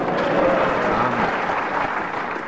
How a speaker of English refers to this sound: We've got more applause. So it is.